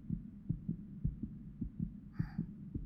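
A quick, steady heartbeat thuds in muffled lub-dub pairs, low and soft, with a faint high chime briefly ringing near the end.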